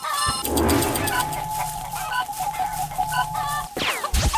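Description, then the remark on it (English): Chicken clucks and squawks in quick bursts over a busy, cluttered mix with a steady electronic tone running underneath, ending in a sharper rising squawk, as a player tries to kill a chicken in a game. “Oh, let's see if I can kill a chicken.”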